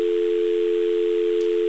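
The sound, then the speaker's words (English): A steady, continuous payphone dial tone hums at an even level throughout, returning straight after the operator releases the call, clear over a faint background hiss, with no voices. “Notice that when the operator releases, it goes straight back to dial tone here.”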